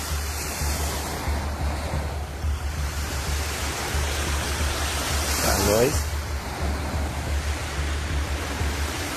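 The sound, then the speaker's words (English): A steady, rushing roar with a low droning hum underneath as engines power up at an airport hangar at night, with a brief whining pitch sweep partway through that rises and falls before the roar carries on. “Yeah, something's powering up. What is it? Could that be a hangar there?”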